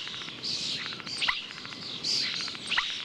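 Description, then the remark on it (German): A common starling sings a varied song mimicking other birds, with high whistles, rapid clicking rattles and sharp downward-swooping notes, the phrase repeating twice, moderately loud against a faint background hiss. “Denn es gibt Vögel, die täuschend echt bestimmte Laute und Melodien anderer Vögel nachahmen können. Bekannt dafür sind zum Beispiel die Stare.”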